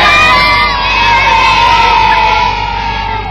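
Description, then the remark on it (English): A big group of excited schoolchildren at Corpus Christi Junior and Infant Schools cheers and shouts together in a loud, sustained roar, their high voices blending into one continuous wave of noise, as the Lord Mayor of Coventry cuts a ribbon to open their conservation area while they wave flags. “The children at Corpus Christi Junior and Infant Schools this morning sounding very excited as the Lord Mayor of Coventry, Councillor David Cairns, officially opened their very own conservation area.”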